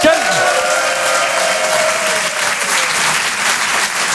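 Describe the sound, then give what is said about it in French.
Wedding dinner guests applaud loudly and steadily for several seconds, a dense crackle of many hands clapping at once, with a few voices and cheers mixed in, for the father of the bride's speech. “Il y a eu le dîner, et à la fin du dîner, le discours du père de la mariée, c'est-à-dire moi, applaudissements, mes chers amis.”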